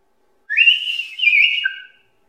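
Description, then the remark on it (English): A single loud, clear whistle like a shepherd's call to sheep, lasting about a second and a half, sliding slightly in pitch before dropping to a lower closing note, with no talking. “Now notice, one of those shepherds gave a whistle and hollered, "Hey, sheep!"”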